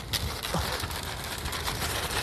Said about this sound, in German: Hier geht so ein wahnsinniger Wind, schaut mal. Hier wird mir fast aus der Hand gerissen.